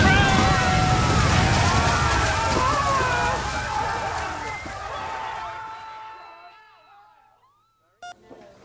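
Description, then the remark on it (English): A loud, churning rush of water surges and roars with bubbling, gurgling tones as the water's pressure forces doors open, then gradually fades away over several seconds before a short electronic beep. “Unless the pressure of this water suddenly forces the doors open and we all get”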